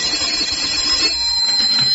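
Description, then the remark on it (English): A telephone rings at Morgan Hardware just after 5, in one continuous, steady burst lasting about two seconds, a bright, high-pitched electric trill held at an even, fairly loud level with no voices. “I was sitting there at the counter just after 5, checking the register and thinking, well, at least I've got until Friday, when the phone rang.”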